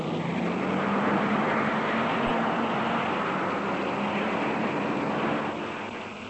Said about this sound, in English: And now, listeners, everything's in readiness for the start. All the cars are revving up, each waiting for his signal to go. Any minute now. Yes, the first one's off. The Monte Carlo rally's underway.